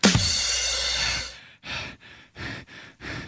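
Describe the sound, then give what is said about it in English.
A voice imitates heavy breathing: one long, loud exhale, then four shorter, rhythmic huffing breaths in quick succession. No speech. “He never does, but mostly just because when I leave him voicemails, it's just me breathing heavily.”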